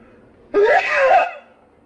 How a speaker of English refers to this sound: I'm going to sneeze now. My first podcast sneeze.